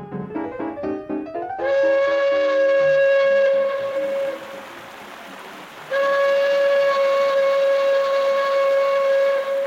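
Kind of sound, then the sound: vehicle, steamboat whistle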